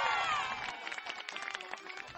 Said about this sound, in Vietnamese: biểu diễn trò dùng chân, tung chiếc mũ rơi đúng lên đầu, thì những tràng vỗ tay và tiếng reo hò tán thưởng vang lên.